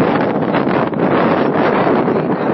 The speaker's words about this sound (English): I'm out walking. Don't be surprised if you start hearing very loud noises. It's very windy.